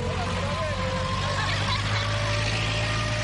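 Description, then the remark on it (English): A construction machine finalizing construction work at the Gatuna one-stop border post on the Rwanda–Uganda border: its engine runs steadily, a deep continuous rumble with a thin whining tone drifting above it, holding at an even, fairly loud level throughout. “That's not a heavy truck. It is a machine which is finalizing the construction.”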